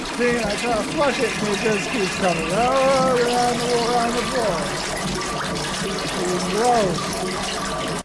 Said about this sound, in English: The water is spinning everywhere, and I try to flush it.